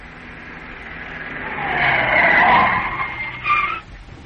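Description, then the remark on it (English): A car speeds away as its driver sets off in pursuit of someone, its engine revving and tires squealing as the noise swells loudly, then fades, with a brief final screech before it trails off. “I've got the car. With a bit of luck, I should catch him.”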